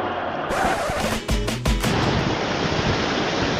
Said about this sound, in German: Aufgepasst, hier kommt keine Laola-Welle, hier kommt die perfekte Welle vom Atlantik. Ich bin im sündhaft schönen Cadiz.